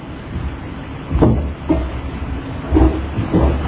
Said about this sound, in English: You guys like the trains going by? It's my first time I've ever spent the night here, and I woke up about every 45 minutes as the train station came by.